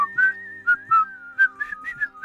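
A person whistles a flowing song melody, a series of clear, sustained pitched notes rising and falling in a steady rhythm, fairly loud, with no talking.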